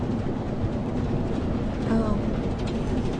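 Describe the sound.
A steady, dense, loud rumble of a moving train carriage fills the whole stretch, with a brief muffled voice surfacing partway through.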